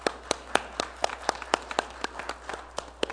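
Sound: applause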